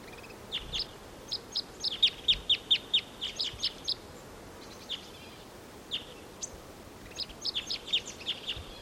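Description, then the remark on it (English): A wild male bird sings in song flight, flying in from a tall ponderosa pine: a rapid series of bright, high chirping notes in quick rhythmic bursts, pausing, then resuming, over a faint steady background hiss. “There's a singing male in the distant tall ponderosa pine. Here he comes. He's flying in. Song flight.”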